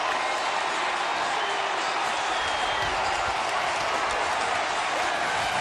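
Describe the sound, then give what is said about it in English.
A huge crowd of 45,000 fans at Miller Park, watching a Jumbotron as the Brewers reach the 2008 playoffs, roars and cheers in a steady, dense wash of noise that holds at full strength throughout, with no individual voices standing out. “That is the crowd. How sweet it is. 45,000 fans watching a Jumbotron.”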